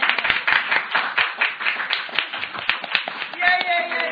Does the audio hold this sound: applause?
yes